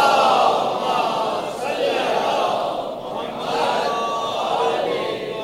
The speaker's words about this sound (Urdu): تو میں گفتگو شروع کرتا ہوں, بھی نیچے سے جو ہے وہ کوئی استراحت کا موقع مل جاتا ہے صلوات یا درود نعرے کے ذریعے سے. اب مجھے سمجھ میں نہیں آتا کہ آپ سلو ہیں یا میں فاسٹ ہوں. درود بھیجے محمد وال محمد.